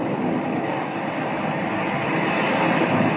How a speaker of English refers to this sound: A jet of water shooting out of the ground 20 feet in the air.